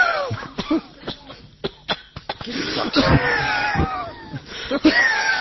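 A person coughs in a rapid, sputtering series of harsh coughs after licking powdered sugar, mixed with choked gasps and throat noises, while other voices react and laugh in the background.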